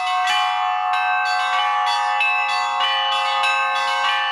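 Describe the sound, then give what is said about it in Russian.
Several bells in a monastery bell tower on Valaam island, Russia, ring together in a continuous, overlapping peal, with fresh strikes arriving roughly every half second over a sustained, shimmering tone. Loud, with no voices. “И сегодня даже мне удалось Божьей милостью вот позвонить на монастырской колокольне.”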